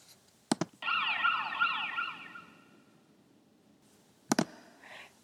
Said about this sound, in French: L'hôpital se trouve à proximité de ma maison aussi, et quelquefois j'entends les sirènes de l'ambulance. Il fait beaucoup de bruit.